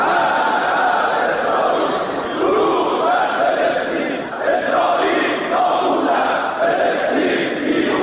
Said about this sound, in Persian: نمایندگان مجلس شورای اسلامی جلسه یه روز شنبه خود را با شعار مرگ بر اسرائیل آغاز کردند